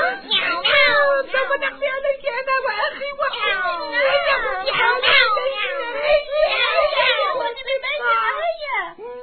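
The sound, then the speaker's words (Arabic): An angry cat meows and yowls almost nonstop, loud, wanting to pounce on one of the chicks, its drawn-out cries rising and falling in quick succession for several seconds. “وفي هذه الأثناء غضبت القطة كثيرا، فأرادت أن تهجم على أحد الفراخ.”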